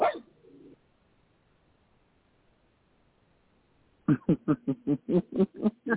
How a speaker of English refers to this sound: Sorry. Yappy dog.